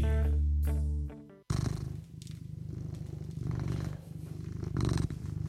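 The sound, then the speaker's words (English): A short burst of music cuts off, then a cat named Morrissey purrs, a steady, rumbling purr with a gentle rhythmic pulse that continues to the end. “Hi, I'm DJ Squared, and you're with me and my cat, Morrissey, the good-looking and pleasant to be around.”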